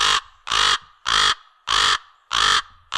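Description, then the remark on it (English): A crow caws six times in a steady, evenly spaced rhythm, each call loud and harsh, with brief silent gaps between them and no other sounds. “If so, that's a crow. They go, caca.”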